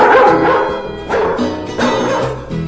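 A dog barks and yips, loud, sharp bursts coming about once a second, with some higher, whiny yelps between them and no one talking.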